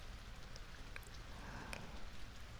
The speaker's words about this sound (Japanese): 雨降ってきましたね。